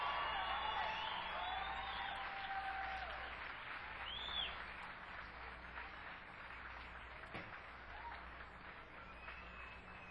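Steady audience applause for a guitarist's beginning to a song, a dense crackle of many hands clapping, with a few shrill whistles and whoops rising above it early on before the clapping gradually thins.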